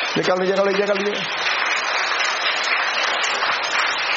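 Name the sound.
audience applause in church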